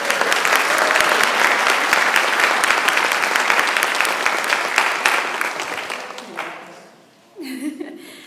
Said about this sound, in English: I would like for you guys to stand up, please. And maybe we can give them a little hand of applause.